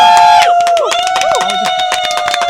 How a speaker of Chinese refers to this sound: 听一下这个欢呼声， 好多人， 猜一下今天到底几个人？ 那是两万个人在现场， 差不多。